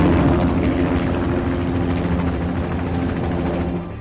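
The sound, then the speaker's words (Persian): A helicopter, Sabrehawk, coming in to a landing zone thunders, its rotor beating in a fast, steady chop over a deep engine roar. The sound stays loud throughout, easing slightly at the very end, with no voices. “یالا باید بریم بالا، حرکت کن، باید از اینجا بریم بالا، باید بریم به محل فرود هلیکوپتر.”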